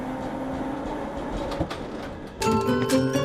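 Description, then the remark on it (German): A tram rolls along its rails with a steady rumble and a few clacks, then a brighter ringing, tonal squeal rises near the end. No one speaks. “Mit der Straßenbahn.”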